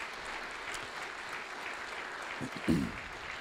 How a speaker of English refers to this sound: I think we should give him a big, big thank you and a round of applause.